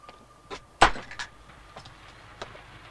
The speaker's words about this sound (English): A station master in black uniform and cap closes the front door of his house and walks onto a platform of a small station.